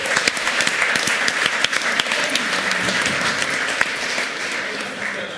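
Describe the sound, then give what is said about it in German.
A crowd applauds steadily for several seconds, a dense wash of many hands clapping at once, loud throughout without any voices. “Okay, einen großen Applaus für unsere Windverstärkung.”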